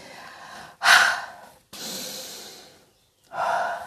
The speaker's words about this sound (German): Sie atmet tief ein und aus.